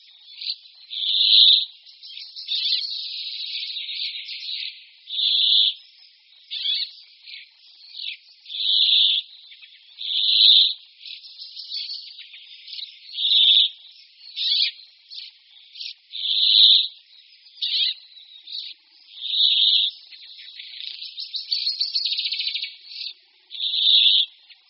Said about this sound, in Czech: K protahujícím hejnům jikavců se často přidružují i jiní pěnkavovití ptáci, zejména pěnkavy obecné. Zpět pěnkavy obecné pak slyšíte vedle hlasu jikavců poměrně výrazně i na naší nahrávce.